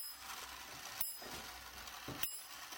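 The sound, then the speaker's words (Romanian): An antique mechanical clock, over 150 years old, whirs and clicks as it starts running, with a steady ratcheting texture and two sharper metallic clicks about a second apart. No one speaks. “Dacă îl pornesc, merge.”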